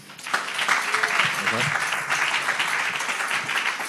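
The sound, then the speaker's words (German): A crowd at an event applauds steadily for two people on stage, a dense wash of many hands clapping at an even loudness throughout, with a few scattered voices and brief cheers mixed in. “Applaus für die beiden nochmal bitte.”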